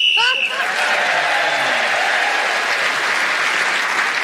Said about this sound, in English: The whistle should blow quite soon.